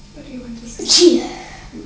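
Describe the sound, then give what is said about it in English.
A single sharp sneeze bursts out, a brief loud hiss followed by a voiced cry, with people talking just before and after. “Bless you.”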